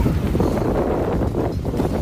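Strong wind roars steadily on the coast at Fisterra, Galicia, a dense low rumble buffeting the microphone with constant gusty turbulence and no pauses. No voices are heard.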